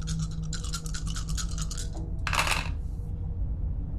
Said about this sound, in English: Make a conflict resolution roll. You have 4 dice. I have 4 dice. Come on, dice, don't fail me now.